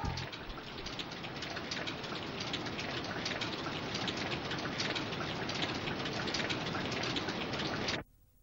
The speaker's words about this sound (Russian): Дождь идет!